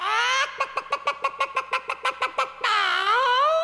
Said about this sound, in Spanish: En un rancho de Tampico pasaba algo muy extraño. La gallina cucuruca se subía en el tejado y sobre la chimenea empezaba a cacarear.